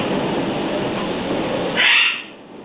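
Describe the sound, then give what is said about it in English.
A caller's pet bird in Oakville gives one short, shrill chirp near the end, heard faintly through a hissy, muffled phone line with steady background noise and no talking. “Somebody's got a bird or something.”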